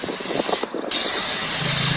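Loud hiss of an aerosol spray can used on horses: a burst of spraying, a brief pause, then a longer steady spray that runs to the end, with faint low rumbling underneath.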